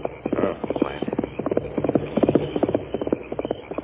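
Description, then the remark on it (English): A horse ridden in a hurry by banker Parsons gallops past along a trail at night, heading for Sagebrush, its hooves drumming in a rapid, uneven clip-clop rhythm that stays loud throughout. “It was Parsons, banker Parsons, riding his horse in a hurry.”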